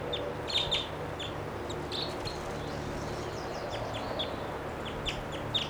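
wild birds calling

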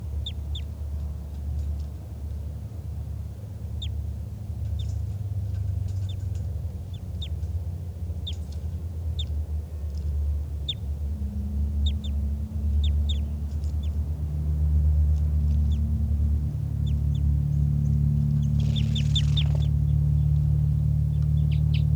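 bird flight calls

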